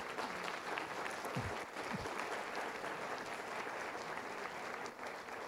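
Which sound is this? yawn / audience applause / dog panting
audience applause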